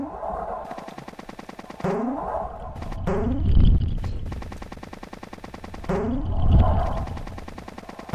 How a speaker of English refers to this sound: There's a cannonball chasing me.